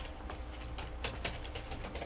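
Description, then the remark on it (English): Soft, irregular keyboard typing as a resolution is typed up during a meeting: a quick patter of light clicks with uneven gaps, quiet and steady over a low background hum, with no voices. “Discussion on this while he's typing it.”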